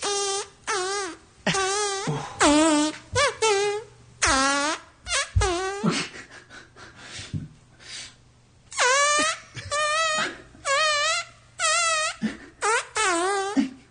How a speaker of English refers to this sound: This is the guy who can fart songs. And he is back. Fart metal. He's the fart metal guy.